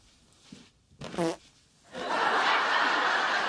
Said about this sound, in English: Oh, you have a farting couch too. No, that was me.